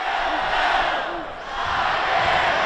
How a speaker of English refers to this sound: And there was the Illini cheering.